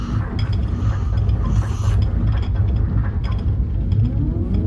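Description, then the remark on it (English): Heavy mechanical gears on a ship grind and whir with a steady low rumble as the cannons are readied and the shields raised, overlaid by rapid ratcheting clicks, loud and continuous for a few seconds, with no one talking. “Let's ready the cannons and bring the shields up.”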